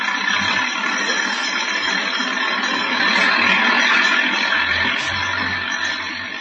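A heavy 4-ton half-track engine roars by in a loud, continuous, gritty rumble that swells slightly in the middle and eases off at the end, with no voices.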